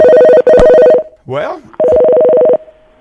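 A telephone ringback tone on line 3 of a radio call-in show sounds in two long buzzing bursts with a short gap, a brief voice murmuring between them, and no one picks up.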